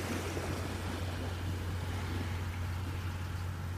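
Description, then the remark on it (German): Steady ocean waves wash continuously with a constant low rumble underneath, an even surf-like roar with no distinct breaks or pauses and no voices. “Und lass die Gedanken wie die Wellen hier am Meer kommen und gehen.”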